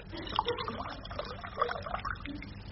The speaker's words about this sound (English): I'll pour your beer now, sir.